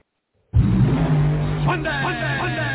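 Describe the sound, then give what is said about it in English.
A rear-engine fuel dragster's engine roars in abruptly at Spokane US 30 Drag Strip, loud, its deep growl holding steady before revving higher in pitch for the rest of the moment. “Watch the best rear engine field dragsters in the country.”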